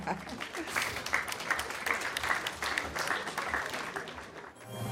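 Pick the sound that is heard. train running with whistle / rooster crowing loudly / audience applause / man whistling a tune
audience applause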